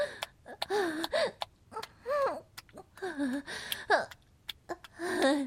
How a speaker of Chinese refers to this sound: 我在整理打扫仓库，这活儿很耗体力嘛，我上气不接下气的喘息两声而已，没事儿的。